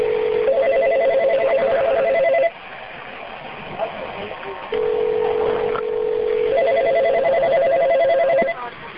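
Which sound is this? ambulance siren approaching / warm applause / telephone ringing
telephone ringing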